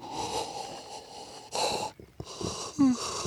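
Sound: yawn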